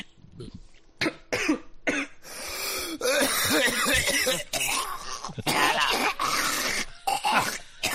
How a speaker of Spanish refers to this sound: Bueno, te decía, a ver si la tos me lo permite.